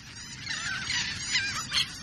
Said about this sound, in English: We're hearing the calls of royal terns.